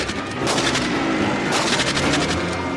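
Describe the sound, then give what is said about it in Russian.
Loud gunfire rings out over a dense, rumbling roar, with sharp cracking bursts at the start and again midway, followed by a rapid flutter of further shots, as a soldier retreating into a guardroom fires at bandits in a truck. No one speaks. “Второй отступает внутрь дежурки и стреляет.”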